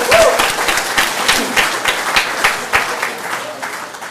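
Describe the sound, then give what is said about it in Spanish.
An audience at an event applauds the organizing committee steadily for a few seconds, many hands clapping at once in a dense crackle that stays loud and even throughout, with a faint murmur beneath it. “Y yo le voy a pedir otro aplauso para el comité organizador.”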